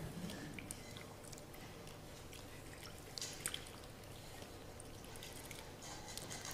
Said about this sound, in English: And he knelt down in front of all of the disciples and he washed their feet. And I'm going to do that for you now, all right?